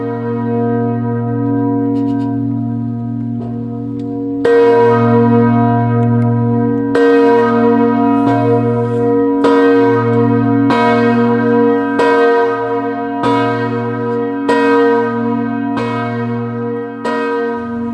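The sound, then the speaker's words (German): A single large church bell of the Evangelical Church of Reconciliation at the Dachau concentration camp memorial tolls in slow, regular strokes about every two seconds, each ringing out with a long, humming resonance that overlaps the next, its sound carrying over the former camp grounds. Loud, with no voices. “Tag läutet diese Glocke. Ihr Klang hallt über das Gelände des ehemaligen Konzentrationslagers in Dachau.”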